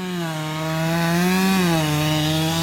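A chainsaw engine drones loudly and steadily, its buzzing pitch dipping briefly as it bites into wood, with no voices; tree trunks being cut by logging teams clearing forest land of the Orang Asli in Malaysia.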